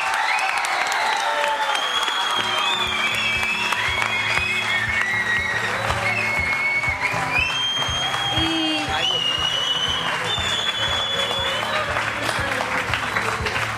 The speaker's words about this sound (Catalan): Ara sí, podeu aplaudir.